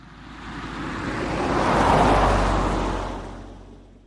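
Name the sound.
car driving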